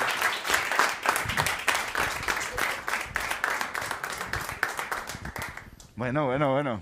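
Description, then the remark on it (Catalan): An audience breaks into loud, steady applause, many hands clapping densely for about six seconds, then the clapping gives way to a single voice with a wavering, sung-like pitch. “Un aplaudiment, jugada mestra.”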